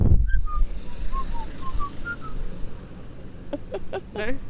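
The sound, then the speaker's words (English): Someone whistles a short tune, a string of clear notes gliding between pitches, followed at the end by a few sharp, rasping bursts. No talking. “Well, you do it then. I can't whistle.”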